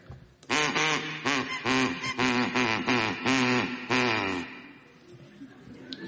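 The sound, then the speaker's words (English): A person loudly imitates a duck, producing a rapid run of about eight nasal, buzzy quacks in close succession that trail off, with no other talking. “No, it was my duck.”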